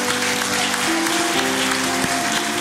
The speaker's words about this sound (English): Would you say a good amen this morning? Let's give the Lord a clap offering this morning and thank him.